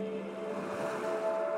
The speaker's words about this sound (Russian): Площадка на крыше моего дома в Коктебеле. Ночь. Звезды. Внизу в чернильной темноте дышит черное море. У меня астма. С прибоем мне легче дышать. Волна накатывает. Вдох. Отступает. Выдох. Между ними пауза.